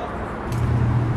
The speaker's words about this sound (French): il y a une route qui passe sous le monument final, la dernière étape, si on peut dire. Et une route, une voie rapide qui passe dessous.